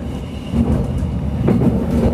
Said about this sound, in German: Rumpelnd schlängelt sich der Zug der Kurhessenbahn durch die hügelige Landschaft. Nächste Station, Bad Arolsen. Dieser Zug endet dort.